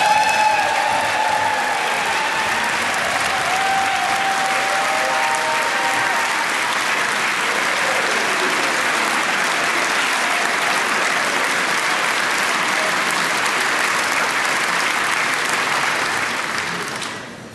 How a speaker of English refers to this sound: You guys all applaud for that. That's pretty good.